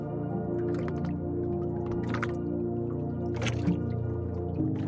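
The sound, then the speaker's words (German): Faint, gentle splashing of dark canal water at dusk, heard from a boat, a few soft irregular drips and small splashes over a steady low hum, with no one speaking. “Du wickelst dich wieder in die Decke ein und hörst dem kaum hörbaren Plätschern zu.”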